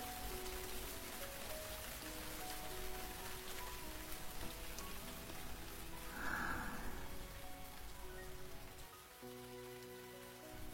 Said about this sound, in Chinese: 你看，前面的地上，雨滴在积水的小坑里映出了我们的影子，还是挨在一起的。